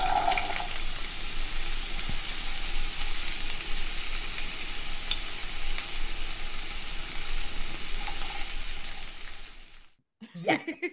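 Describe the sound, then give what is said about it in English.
A sizzle sound effect: a steady, loud sizzling hiss like food frying in a hot pan, continuous for about ten seconds before cutting off abruptly, followed by a brief burst of other noise. “And now we are moving on to the hot topics. That's my sizzle sound.”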